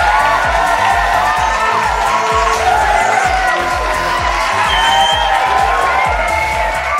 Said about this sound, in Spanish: Mientras tanto, ¿qué mejor manera de expresar nuestra dicha por aquel momentazo que con un caluroso aplauso?